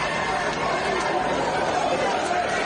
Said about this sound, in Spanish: Este es el sonido del ambiente en esa nave abandonada de Linares del Vallés en Barcelona en el momento de su desalojo. Gritos contra los agentes, empujones y algunos momentos de tensión son los que se han vivido.